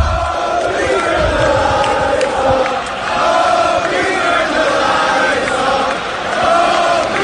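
A huge arena crowd at WrestleMania roars and chants together, the chant being 'Please turn the lights off', in a dense, sustained wall of voices. The sound stays loud and steady, with faint rhythmic swells as the chanting rises and falls.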